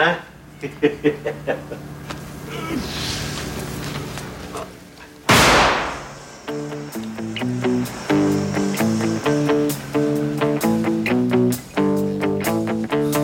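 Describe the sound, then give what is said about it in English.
A quick run of sharp firecracker pops from a scene in the film Boogie Nights opens, followed by a single loud bang, after which a steady keyboard-driven pop song starts playing with a rhythmic beat. “That's why life's letting out firecrackers, huh?”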